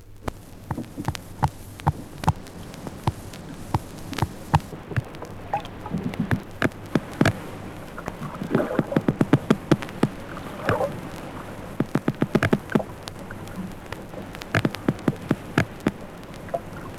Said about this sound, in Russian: В Каспийском и Азовском морях встречаются одинаковые звуки рыб. В Каспийском море записаны новые биологические звуки.